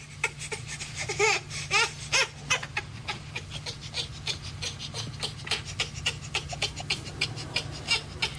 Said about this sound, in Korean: 이때 아기들은 엄마의 굳은 표정에 당황하기 마련이다. 하지만 그 이후의 반응은 아기마다 다르다. 대부분의 아기들은 어쩔 줄 모르며 당황하다가 울음을 터뜨린다.